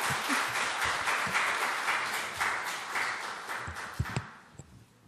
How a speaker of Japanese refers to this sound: 相当今緊張しながら座っておられるので、皆さん大きな拍手を持って迎えてください。